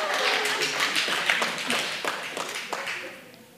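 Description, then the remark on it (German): An audience answers whether they are single with single claps, forming a ragged scatter of sharp hand claps over a few seconds that thins out toward the end, with some faint murmuring underneath. “Wer von euch ist Single? Einmal klatschen.”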